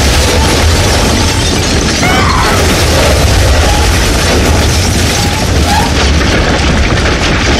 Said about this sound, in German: Eine geile Explosion tauchte die Treppe in lodernde Weißglut.